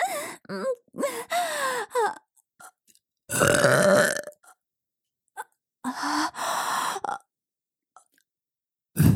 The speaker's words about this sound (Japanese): ゲップ最高です。